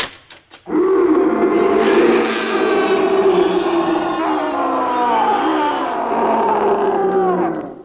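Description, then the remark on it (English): A tiger lets out one long, loud roar, a deep, rumbling growl that holds steady for several seconds after a brief moment of quiet. “The first thing to do when you're being stalked by an ugly mob with red currants is to release the tiger.”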